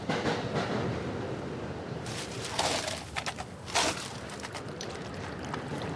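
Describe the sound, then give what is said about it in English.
Steady, loud rumble inside a moving Metro North commuter train's bar car on the line between New York City and Stamford, Connecticut, with brief rattles and clinks around the middle and no one speaking. “She tends bar on the Metro North line between New York City and Stamford, Connecticut.”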